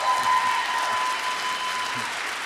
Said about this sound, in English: I heard a little applause.